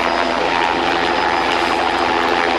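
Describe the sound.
A voice imitates a traffic-report helicopter's rotor noise: a steady, loud, rushing drone with a faint rhythmic chop underneath, held without a break and with no words spoken.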